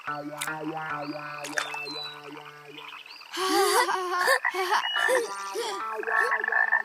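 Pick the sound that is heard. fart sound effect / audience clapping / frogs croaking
frogs croaking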